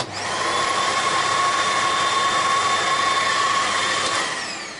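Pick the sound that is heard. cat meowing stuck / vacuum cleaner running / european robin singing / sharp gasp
vacuum cleaner running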